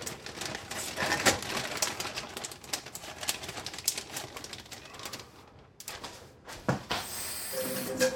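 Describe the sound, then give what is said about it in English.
Quick, repeated knife strikes on a cutting board as celery is chopped, a steady crisp tapping that pauses briefly before resuming, with no one speaking. “Oh, I'm gonna chop up some celery.”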